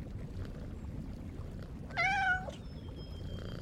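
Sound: cat meowing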